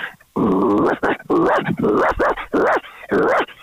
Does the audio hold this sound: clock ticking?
no